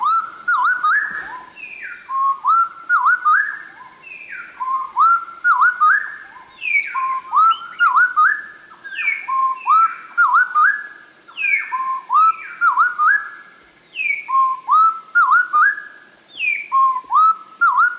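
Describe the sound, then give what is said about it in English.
A bird pair's duet slowed to 1/4 speed: two sets of smooth, whistled notes alternate and interlock in tight repeating phrases, rising and falling steadily for the whole stretch, with no talking. “We think close interplay of song reinforces pair bonds in birds that frequently lose sight of each other.”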